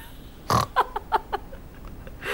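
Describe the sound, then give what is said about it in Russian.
A man imitates a pig, starting with a loud snorting grunt followed by a quick run of shorter oinking grunts that trail off, then one more breathy snort at the end. “Я говорю, скажите, а вы сегодня не хрюкали?”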